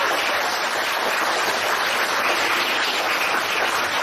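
Steady applause from an audience, a dense wash of many hands clapping at an even, fairly loud level for about four seconds, with no voices heard.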